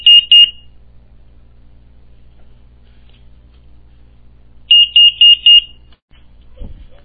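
A security alarm panel's exit-delay beeping as the alarm is armed with doors, windows and motion sensors on: a pair of sharp, high electronic beeps, a quiet pause over low hum, then a quick run of four more beeps and a soft thud.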